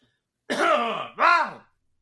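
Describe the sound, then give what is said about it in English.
A person clears their throat in two quick, raspy bursts, the first longer and gravelly, the second a short rising rumble, with silence around them. “Got to clear my throat.”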